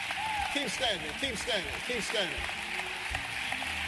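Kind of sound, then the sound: crowd, audience clapping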